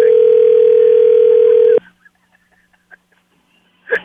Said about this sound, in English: I'm going to call the burner phone now. It's sitting on the table inside the coffee shop. That is correct. Here we go. Here we go. It's ringing, yes.